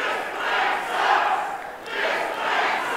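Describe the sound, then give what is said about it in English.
A town hall audience shouts back in response to Senator Sessions on the health care plan, a loud, continuous roar of many overlapping voices, swelling and dipping in waves across the three seconds, with no single speaker standing out. “Crowd response?”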